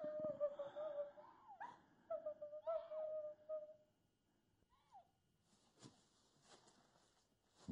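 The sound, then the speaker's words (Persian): Pained moaning, like that of a young one caught in a trap: several drawn-out, wavering cries in quick succession, fairly loud, then trailing off into faint, scattered sounds. “اینگار ناله بچه ها هیست دردمند از من به دامی گرفته آمده.”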